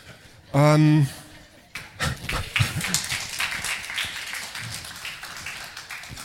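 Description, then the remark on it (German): An audience breaks into applause: a dense crackle of many hands clapping that swells quickly and then slowly thins out, right after a brief, loud voiced tone. “Der Beifall zeigt, auch Sie haben Angst.”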